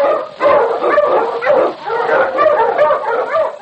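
King, a Malamute lead sled dog in the Challenge of the Yukon, barks loudly in a quick, steady run of yelping barks, roughly two per second, with no one talking.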